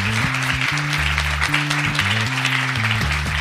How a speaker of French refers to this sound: On peut l'applaudir parce que c'est pas un exercice facile.